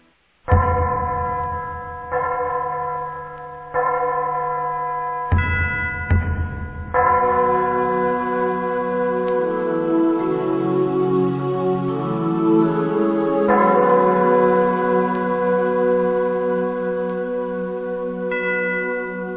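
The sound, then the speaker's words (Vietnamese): Deep temple bells in a monastery's main shrine hall ring out in a steady series of strikes, their rich tones overlapping and lingering into a sustained, shimmering drone, with low drum thuds underneath, loud and alone without voices. “Chuông trống vang lên, rồi cánh cửa chính bỗng mở rộng.”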